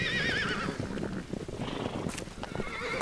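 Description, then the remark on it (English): Spanish Mustang horses in Wyoming whinny loudly with wavering high calls at the start, followed by a dense rumble of many hooves galloping over a ridge, steady and continuous throughout. “Living history comes thundering over the ridge. This is America's original horse.”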